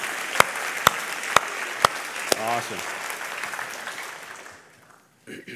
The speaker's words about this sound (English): These people need an incredible round of applause for sticking it out.